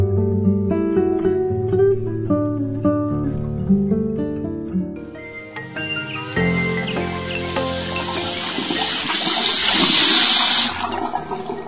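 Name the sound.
water running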